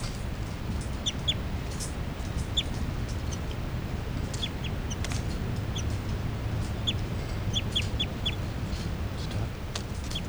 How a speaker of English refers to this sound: Pointing at these birds again. That's 3-3 chitter. 3, 3, and the new juveniles are giving calls here. Flight calls.